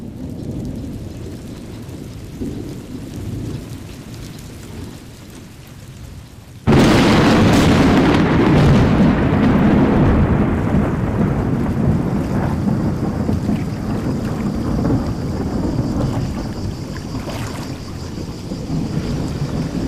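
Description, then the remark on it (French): A low rumbling storm suddenly breaks into a loud crack of thunder that rolls on and slowly fades, with steady rain hissing throughout and no voices. “Je me souviens que brusquement, l'orage a confondu tes yeux et mes pensées.”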